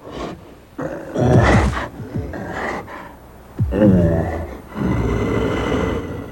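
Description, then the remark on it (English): Several bears in a movie directed by Jean-Jacques Annaud grunt and roar in close succession, loud, with raspy growls and breathy huffs overlapping in irregular bursts and no pauses of silence between them. “Here's a kind of bear happy hour.”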